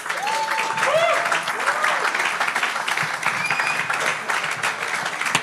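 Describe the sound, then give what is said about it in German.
Steady audience applause for the event's hosts, a dense wash of clapping with a few voices and whoops rising over it early on. “Deswegen Applaus an euch und nicht an mich.”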